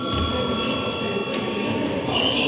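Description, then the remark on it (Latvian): A bell rings continuously to announce a recess in the Saeima, Latvia's parliament: a loud, steady metallic ringing with a sustained high tone that holds for the whole stretch without pause and with no talking. “Kolēģi, ir pienācis laiks pārtraukumam. Lūdzu, zvanu.”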